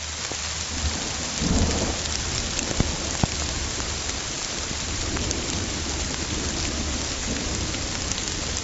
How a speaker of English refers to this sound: So the second category is geophony, which is other natural sounds like wind blowing through the trees or a gargling river. So here's an example of geophony. This is a rainstorm.